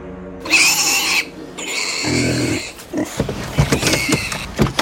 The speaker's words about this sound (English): Now, I know what you're thinking. Yeah, it's a pig farm. You're gonna love it.